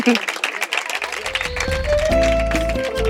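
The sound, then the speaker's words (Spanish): A crowd claps in a steady, dense patter of applause for the inauguration of the Biblioteca Feminista, a feminist library at La Villana, and after about a second music with a deep bass line and a sustained melody rises up beneath the clapping. “Ahora sí, hemos llegado hasta el final y le queremos dar la bienvenida y un aplauso para la Biblioteca Feminista hoy en su inauguración.”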